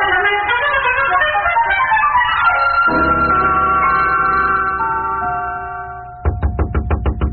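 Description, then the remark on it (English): After a stretch of music and a lingering chime-like tone, a rapid series of about seven loud, evenly spaced knocks on a door rings out at 6 o'clock in the morning, with no voices. “I woke up, heard this knocking, and the doorbell.”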